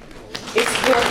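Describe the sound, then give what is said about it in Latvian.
At the congress of the Latvian party No sirds Latvijai, led by Sudraba, members applaud themselves for their successes: audience applause breaks out after a brief quiet moment, swelling into a steady, loud wash of clapping, with a faint voice or cheer mixed into it. “pateicos un aicinu ar aplausiem sveikt pašiem sevi par panākumiem šajā periodā.”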